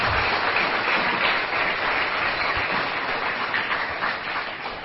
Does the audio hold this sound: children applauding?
yes